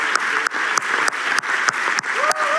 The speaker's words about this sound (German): An der Stelle den größten Applaus, den wir heute in diesem Ort, den größten Applaus für unseren Herrn. Halleluja.